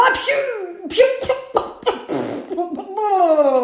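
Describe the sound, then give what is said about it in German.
A voice acts out a huge animal shooting out of the water and shaking itself in a fit of sneezing, coughing and spluttering: several sharp, breathy bursts, ending in a drawn-out, wobbling vocal sound. “Niesend, hustend und brustend schüttelt er sich,”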